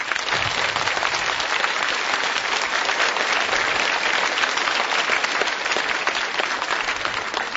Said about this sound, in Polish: A cieszymy się najbardziej z tego, że ksiądz biskup Antoni przyszedł do nas i chcemy mu podziękować za to, że tu jest z nami, że Matka Boża ma też takiego pracownika w swojej winnicy. Kochani, brawa dla księdza biskupa.